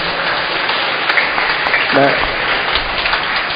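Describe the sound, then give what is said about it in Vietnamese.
A crowd of children at a church Mass applauding to thank the priest for a gift, a steady wash of many small claps with a brief child's voice rising around the middle. “Thích cho chàng vỗ tay cảm ơn.”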